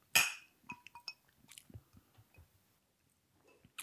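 glasses clinking

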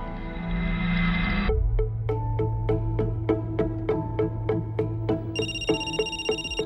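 telephone ringing

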